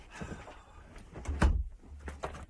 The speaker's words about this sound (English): You shut the door, please. You're letting in a draught.